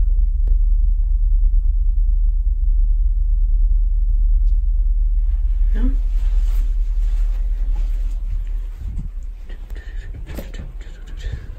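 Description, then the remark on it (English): A loud, steady low electrical hum from inside an equipment box drones throughout, joined in the second half by scattered clicks, knocks and rustling noise. “See if you can hear this little, it starts humming.”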